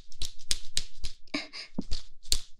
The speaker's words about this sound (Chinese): 这个鞭子听起来就特别有力呢，主人。